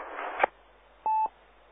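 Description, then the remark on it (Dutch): A single short telephone tone, a steady beep lasting about a quarter second, follows a brief click over a thin, hissy phone-line background. No one speaks. “Ik heb een telefoon.”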